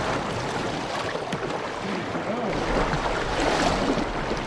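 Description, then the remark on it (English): A boat drifts down the South Fork of the Snake River in Idaho during fly fishing, with a steady rush and gurgle of current that holds constant throughout, swelling slightly louder toward the end. “We caught up with the former vice president in one of his favorite spots, drifting down the South Fork of the Snake River in Idaho.”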